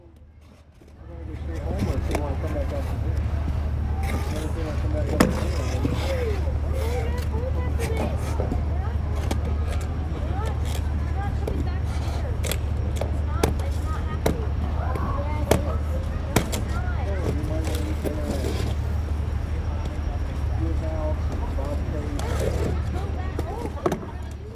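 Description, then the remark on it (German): Busy ambience at a small outdoor ice rink set up on the Main riverbank where cars usually drive: skate blades scrape and click on the ice again and again, over a constant murmur of many voices and a steady low hum of traffic or machinery. “Am Mainufer ist eine kleine Eisbahn aufgebaut. Wo sonst die Autos fahren, kann man nun auf dem Eis seine Runden drehen.”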